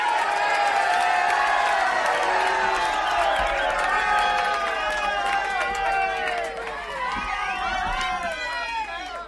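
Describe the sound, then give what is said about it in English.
A large crowd cheers and whoops loudly over dense, continuous clapping, a steady roar of many voices that fades only slightly toward the end, as a performer is introduced at a live show. “Ladies and gentlemen, I want you to give a big, warm round of applause for the one and only, the man you've waited for all night,”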